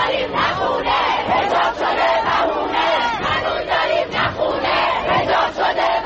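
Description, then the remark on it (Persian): A large crowd of protesters in the streets of Iranian cities shouts and chants against the government in a dense, continuous roar, voices rising and falling in loud rhythmic surges for several seconds with no single speaker standing out. “شهرهای ایران ملتهب بود، مردم ایران بغض فرو خوردهشون رو فریاد می‌زدند.”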